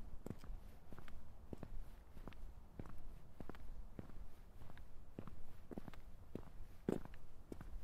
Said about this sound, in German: Zwölftausenddreihundertfünf Schritte. Elftausendsiebenhundertsiebzig Schritte. Ich nähere mich. Elftausendzweihundertfünfunddreißig Schritte.